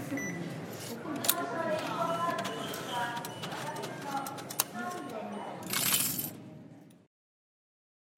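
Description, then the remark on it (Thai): Coins clink and drop into a ticket machine to buy train tickets, a quick series of bright metallic chinks over busy station ambience with voices murmuring in the background. “หลังจากหยอดเหรียญซื้อตั๋วกันขึ้นรถไฟกันเรียบร้อยแล้วนะฮะ”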